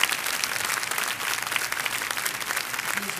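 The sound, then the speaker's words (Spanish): A crowd applauds the King steadily, a dense wash of many hands clapping at an even, sustained level throughout, with no voices standing out. “Vamos a darle el aplauso al Rey.”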